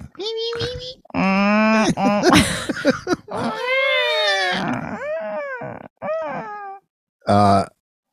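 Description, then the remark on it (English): A person's voice imitates a whale call with a string of long, gliding moans and squeals that rise and fall in pitch, in several fairly loud bursts separated by short pauses. “That was whale four.”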